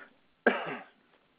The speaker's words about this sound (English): Sorry if I'm coughing and stuff. Yeah, I really apologize for that, but I'm gonna do my best here.